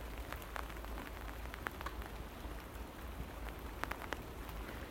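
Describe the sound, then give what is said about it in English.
Steady rain patters onto a hard surface on a dreich November morning, a soft continuous hiss broken by scattered sharper drips and taps, fairly quiet with no voices. “Aye, it's a right dreich morning. We've had so much wind and rain recently, so much.”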